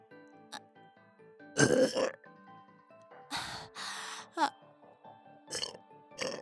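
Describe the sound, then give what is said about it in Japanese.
Several loud, rasping burps erupt one after another with short pauses between them, set over a faint, steady tonal hum in the background. “ねえ、以前のあなたのおしっこゲップと比べていかが？”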